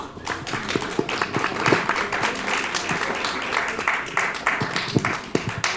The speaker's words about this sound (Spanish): Pues le damos la palabra a nuestro compañero y lo recibimos con un aplauso.